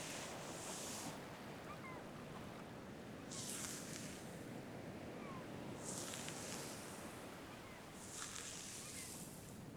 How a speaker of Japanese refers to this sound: 波の音と鳴き声、落ち着く？